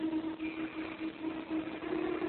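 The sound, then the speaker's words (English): An Army bomber's engines drone loudly and continuously at about 2,000 feet with an uneven, faltering pulse as they give out, sputtering, filling the whole moment with a muffled, low hum and no voices. “Engines are giving out.”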